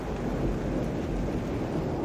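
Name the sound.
heavy rain downpour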